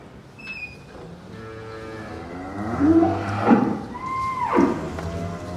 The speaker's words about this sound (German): Das ist ein neues Geräusch. Die rotierende große Bürste, an der sich die Kühe massieren lassen können.